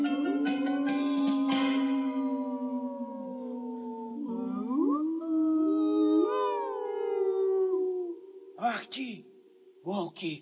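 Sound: wolves howling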